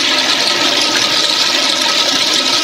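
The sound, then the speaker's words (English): A toilet flushes loudly and steadily, a continuous rushing, gurgling wash of water that holds its strength for a few seconds with no voices. “Oh no, I was waiting for the swirly!”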